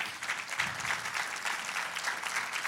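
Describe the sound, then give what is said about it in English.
A church audience claps steadily for a few seconds during a sermon, a dense wash of many hands applauding together, fairly loud and unbroken, with no voices standing out. “Come on, if you're going to applaud, applaud.”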